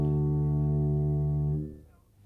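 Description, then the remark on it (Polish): A single low zither chord rings out steadily and loudly for about a second and a half, then fades away quickly. It is the Polish Radio Łódź interval signal, low zither chords in D major devised by engineer Jarosław Bołdok. No voices. “Twórcą sygnału jest inżynier Jarosław Bołdok, który po dłuższych studiach nad dźwiękami cytry dobrał na tym instrumencie cztery nisko brzmiące akordy w tonacji D-dur.”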